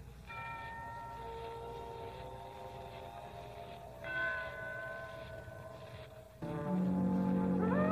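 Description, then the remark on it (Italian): Bells ring out in a few separate strikes within the first movement of a musical composition, each leaving long, shimmering overtones that hang in the air. The tones are fairly loud over a low, steady background rumble, with no voices. “E ancora in questo primo movimento, dopo aver descritto il lavoro durante la schiavitù, a un certo punto si odono delle campane.”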